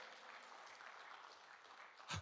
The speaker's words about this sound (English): Come on, give God a hand clap for that.